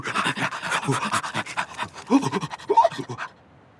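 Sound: sled dogs panting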